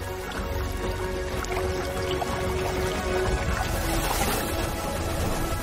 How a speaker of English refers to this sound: This wave of water will transform everything. As a great oasis is born.